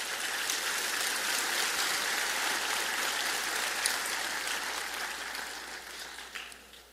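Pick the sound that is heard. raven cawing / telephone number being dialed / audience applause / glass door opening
audience applause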